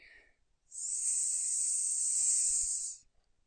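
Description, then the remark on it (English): A person chants the mantra "S" of the rune Sig to end a natural magic practice, tracing a lightning sign with the right index finger: a single long, steady hissing "sss" that holds at an even, bright pitch for a little over two seconds before cutting off, with near silence around it. “And we finish every practice of natural magic with the rune Sig, which means that we will take our right hand and our index finger, and we will trace a sign of a lightning while chanting the mantra S.”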